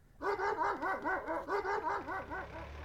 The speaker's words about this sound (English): Suddenly, Bricky started to bark.